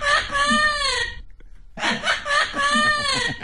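A green parrot gives two bursts of raspy, harmonic, laugh-like squawks with wavering pitch, split by a short pause. The calls are loud and heard alone.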